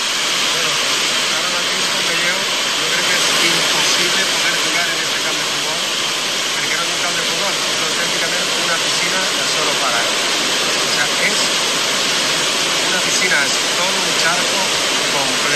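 Torrential rain pours down during a thunderstorm over a flooded football stadium, heard from the top of the stadium: a dense, unbroken roar of water that stays loud and steady throughout, with a bright hissing wash and no distinct drops.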